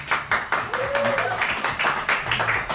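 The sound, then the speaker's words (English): An audience at Nat's Landing claps together in a rough rhythm as the head coach of the Frederick Academy Knights joins, a steady run of loud, crisp hand claps with a brief tone rising faintly through the middle. “We're getting better on our timing on the clapping.”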